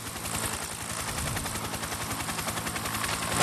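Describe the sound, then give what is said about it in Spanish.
A small battery-powered helicopter's rotor chops in a fast, steady pulse, fairly loud, swelling slightly toward the end with no voices present. “Se estrelló el helicóptero. Se le acabó la batería.”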